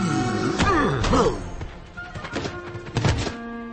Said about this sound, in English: Zugor leaps out of a hole and bounces off the heads of Gunda and her sons, knocking them out.